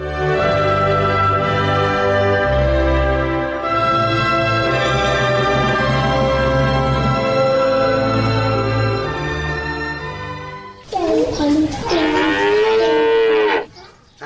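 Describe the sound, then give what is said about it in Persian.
Sustained instrumental music plays for most of the stretch, then gives way to a single loud cow moo lasting a few seconds, drawn out and rising and falling in pitch, in a stable where a man is putting out straw for the cow. “این بابا اینجا در طویل خونه استم برای گواه کام اندازم.”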